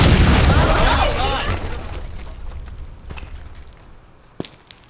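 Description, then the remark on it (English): A door bursts open with a loud, booming bang that rumbles and fades over a second or so, followed by quieter clattering and one sharp knock near the end. “Apologies for the door.”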